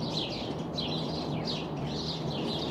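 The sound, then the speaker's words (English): A red-winged blackbird calls repeatedly, giving about five high, rising notes at a steady pace over a constant background hiss. No one is speaking. “red-winged blackbird”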